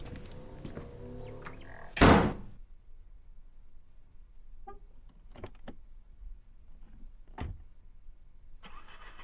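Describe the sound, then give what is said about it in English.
A truck door slams shut with a heavy thud, followed by a few scattered clicks and clunks, then an engine cranks and starts in the final second. No one speaks. “Just go get the truck running.”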